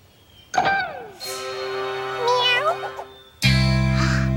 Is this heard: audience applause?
no